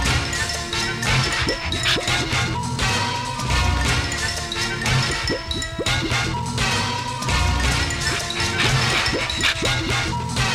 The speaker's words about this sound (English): If those cymbals sound like breaking glass at a normal listening level, there are other turntable problems.